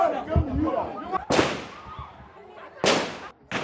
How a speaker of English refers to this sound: Prison officials fired into the air to disperse the growing crowd before putting Nyanzi into a van and taking her back to jail.